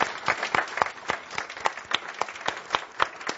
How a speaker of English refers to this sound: Okay, and finally, before we take a break, let's give a really big applause to the staff who puts all this together.